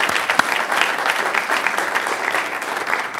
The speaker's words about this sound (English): Where's the young man that graduated? Just 14th in your class? 16th in your class? All right, that's worth an applause a little bit, first of all.